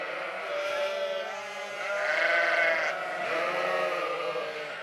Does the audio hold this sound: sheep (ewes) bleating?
yes